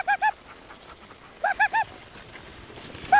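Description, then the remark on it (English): Sled dogs out on the trail give short, high-pitched yips in quick clusters: a pair, then three in a row, then one more after a pause, over a faint outdoor hiss, with no talking. “The German has developed a unique way of yelling to his dogs when he's out of the trail.”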